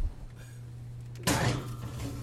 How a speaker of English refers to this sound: So I'm going into the oven now. Will you grab the oven door for me? I will. Okay.